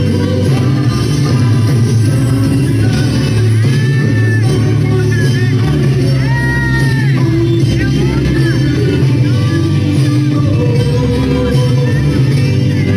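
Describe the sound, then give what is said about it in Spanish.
A concert audience shouting together, a dense, loud wall of overlapping voices with rising and falling yells that holds steady for the whole stretch without a break. “Porque miren lo que la gente estaba gritando.”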